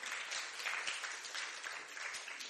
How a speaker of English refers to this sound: Give a big hand clap.